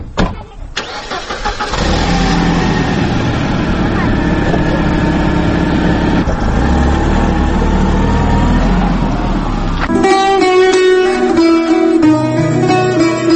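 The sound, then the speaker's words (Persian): A car engine cranks and starts, then idles with a steady mid-pitched rumble for several seconds as passengers get into the car, before music takes over near the end. No voices are heard. “می روند معلم حسین و فاطمه به ماشین سبوک رو سوار می شوند.”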